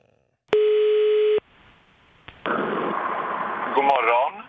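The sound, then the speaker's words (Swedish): A single steady ringback tone over a telephone line as a radio studio calls radio star Farao, who is in Gothenburg, lasting about a second, followed by a click as the call connects and muffled phone-line voices and noise. “Så vi ringer Farao idag.”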